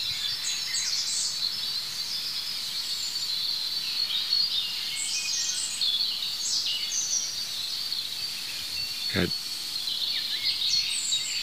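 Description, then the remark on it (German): A European robin sings a high, thin song with fine twittering phrases, continuous over a steady hiss of background insects and ambience, with one brief low thump partway through. No talking. “Jetzt habe ich mich gedreht zu dem anderen Rotkehlchen, es ist gerade still geworden. Oh, da geht's los.”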